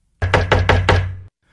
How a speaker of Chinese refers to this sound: 医生，医生， 什么事啊？敲门敲得这么急。